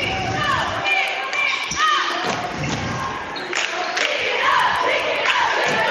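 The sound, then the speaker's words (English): A basketball game in progress, with the Eagles playing in the third quarter: a steady crowd roar with shouts and squeaky sneakers, punctuated by several sharp ball thuds on the court at an uneven pace. “And so it'll be Eagle basketball.”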